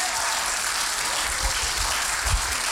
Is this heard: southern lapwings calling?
no